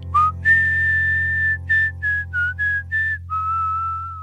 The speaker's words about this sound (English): Hey you, I hear your whistle.